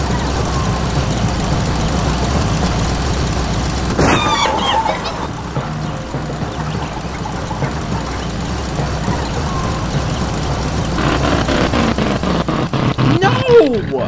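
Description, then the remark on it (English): A car engine idles with a steady, low, continuous rumble for the whole stretch, fairly loud, with a few brief higher-pitched sounds flickering over it. “It sounds like it's idling, though.”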